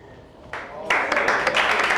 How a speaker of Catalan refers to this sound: En Merlí, la Berta, la Tània i en Gerard que aplaudeixen impressionats.